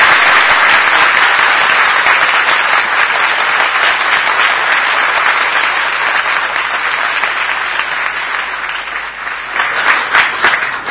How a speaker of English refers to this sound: But everyone clapped much louder for Krishna.